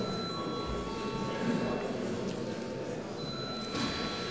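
A steady electric bell rings continuously for several seconds in a parliament chamber, calling deputies to a vote on a bill amending a housing assistance law. It is a sustained buzzing ring with a constant pitch that doesn't break or pulse, under a faint murmur of background noise.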